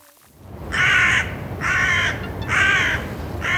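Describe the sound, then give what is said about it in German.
Three harsh, drawn-out crow caws come at a steady, evenly spaced rhythm, loud, over a constant low rumble of background noise. No one speaks. “Saatkrähen und Raben, Nebelkrähen, das ist das, was man in Wien normalerweise sieht.”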